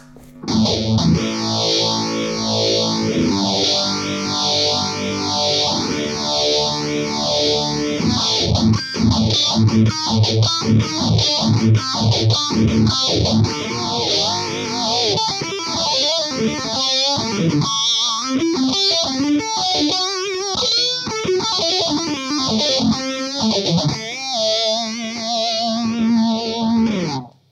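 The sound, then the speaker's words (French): A loud, distorted electric guitar plays chords and riffs through a phaser placed after the distortion in the signal chain, its tone sweeping up and down in a steady whooshing cycle for nearly half a minute, with no talking. “Et pour finir, donc la distorsion avec notre phaseur en aval.”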